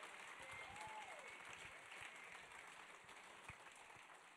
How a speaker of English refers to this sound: Hey, can we clap for the living testimonies today?